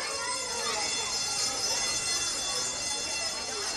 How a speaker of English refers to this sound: As the afternoon went on, it was pretty much chaos until that final 3:30 bell.